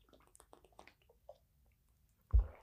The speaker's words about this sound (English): let me keep true to this coffee and questions and take a sip of coffee